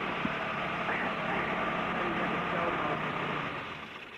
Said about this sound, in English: How's that? Sounds very nice. Good little engine in that car, definitely.